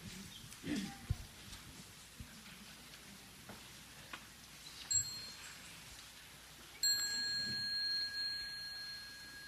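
A small mindfulness bell is struck once near the end during a Sangha practice and rings on with a bright, sustained shimmer. A faint, brief ting comes a little earlier, over a low crackling background hiss.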